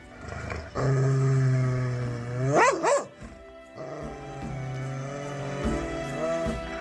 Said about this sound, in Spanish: En el momento en que iba a entrar en ella, un perro apareció en la entrada gruñendo.